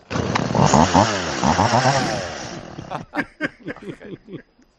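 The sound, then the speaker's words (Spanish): A voice imitates a chainsaw, revving up and down in a loud, buzzing drone for about three seconds, then sputtering into a series of short, choppy bursts. “Vamos a escuchar la motosierra Steel.”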